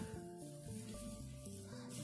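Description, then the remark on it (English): A plastic bag rustles and crinkles continuously for a couple of seconds, a dense, scratchy noise layered over steady tones of background music, with no one speaking. “Sorry about that plastic bag.”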